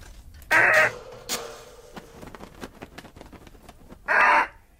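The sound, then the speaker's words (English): A pet parrot named Giuseppe squawks twice, loud and harsh, once near the start and again near the end, with faint rustling and clicking in the quiet gap between. “I don't want to get some parrot disease, do I?”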